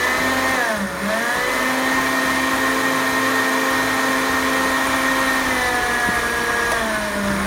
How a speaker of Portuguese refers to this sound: E vou ligar o liquidificador. Vai batendo, batendo até ficar um creme espesso.